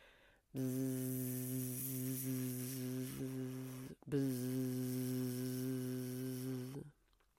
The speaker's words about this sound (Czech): Během malé chvilky slyší bzukot včel, co nosí pil v nádobkách svých, aby sladký medík byl.